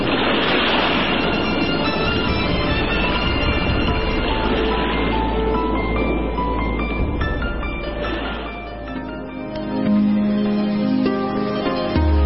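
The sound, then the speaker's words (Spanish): Ocean waves wash and roar steadily throughout, a loud surf with no breaks, overlaid by sustained tonal music-like notes that grow clearer toward the end. “El mar. Naturaleza viva con fondos poblados de increíbles criaturas animales y vegetales.”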